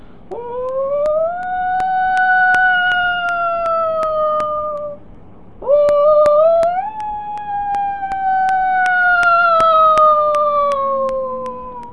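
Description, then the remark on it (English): Whale song: two long, drawn-out tonal calls, each rising then slowly sliding downward, with scattered sharp clicks throughout and a low rumbling background. No talking. “A whale sings.”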